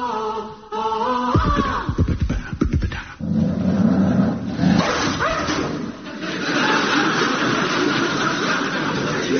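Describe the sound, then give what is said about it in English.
A police dog barks in a rapid, excited series of loud yaps and whines, followed by a steadier rumbling background noise with no talking. “Thank you, police dog gripper.”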